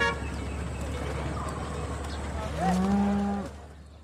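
A cow lets out one loud, drawn-out moo lasting about a second near the end, rising out of a steady outdoor rumble of background noise, with cattle on the road amid traffic.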